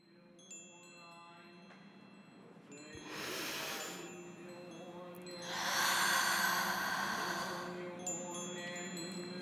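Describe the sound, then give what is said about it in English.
A breathy intake followed a couple of seconds later by a longer, noisy sneeze burst, heard over a soft steady background hum with faint tones. No one speaks. “Bless you”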